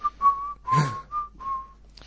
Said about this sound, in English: Were you just whistling, don't know much about geography? Geography.